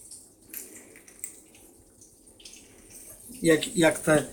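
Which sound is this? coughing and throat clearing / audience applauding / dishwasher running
dishwasher running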